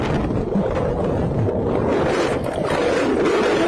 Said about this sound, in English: The both of them traveling through the culvert, through the tunnel underneath Highway 98. This is them underwater, struggling to stay alive. They were on one side of 98, sucked through by the rushing water that ripped them both off of their feet.